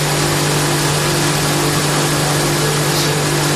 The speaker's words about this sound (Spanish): Si miras al horizonte ves el desierto, pero si bajas la vista te sorprende este sonido. Es el agua cayendo desde una tubería a uno de los dos grandes balsas en las que se almacena para después repartirse por los distintos municipios.